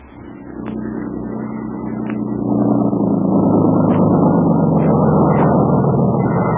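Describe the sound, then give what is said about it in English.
A motorboat engine rumbles steadily as the motor comes on, growing louder over the first few seconds and then holding a constant droning hum with a few faint clicks on top. The boat moves along a river channel and up a narrow creek. “we see a couple of natives busily transforming it from a crude boat into a smooth, sleek motorboat. Soon, the motor is on.”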